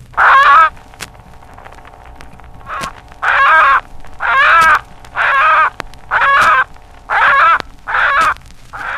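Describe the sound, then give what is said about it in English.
A hen held in the hand by a man lets out a series of loud, harsh fear squawks, about eight raucous bursts in steady succession, with no talking. “When a chicken is caught by a predator, for example, as when a hen is held in the hand by a man, the bird gives loud, fear squawks.”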